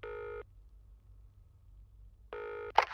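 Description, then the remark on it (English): A telephone call goes out over a quiet low hum: two buzzing ring tones about two seconds apart, then a sharp click as the line picks up. No one speaks. “He's calling someone else. I'm past due on this phone call anyway.”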